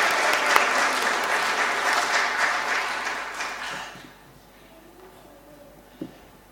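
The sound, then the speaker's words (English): An audience claps steadily for about four seconds in a dense, crackling wash of many hands, then the applause fades out, leaving near quiet with a single faint thump near the end. “Okay, let's give them a clap.”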